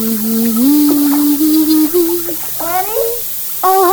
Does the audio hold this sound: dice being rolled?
no